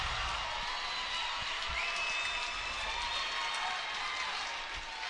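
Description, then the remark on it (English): A crowd at a Trinity versus Bethlehem Catholic match reacts to action on another mat with steady, dense applause and cheering that fills the whole clip at an even level, with a faint whistle-like tone rising briefly above the noise. “And for Trinity, crowd reacting to another mat.”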